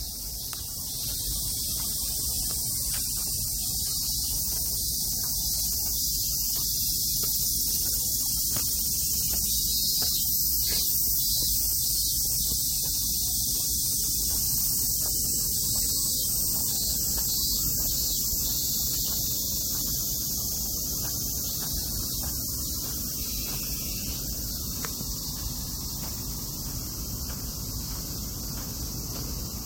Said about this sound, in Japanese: またちょっとこの後ですね、鎮守の森の中、私もう少し歩いてみます。蚊に刺されながらもちょっと歩いてですね、この言葉をちょっと控えめにして歩きますので、ちょっと音をお楽しみください。